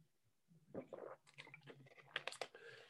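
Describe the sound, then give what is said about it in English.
Someone takes a swig of water: a short run of wet gulps and swallowing noises, with smacking mouth sounds between them, fairly loud and with no talking. “Okay, let me just take a swig of my water.”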